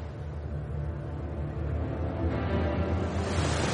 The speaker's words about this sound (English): She takes this buffeting well for such a little thing. Yes. The provisions and the breakers of water are helping her to stand up to the sea and wind, but it's getting a bit rough now.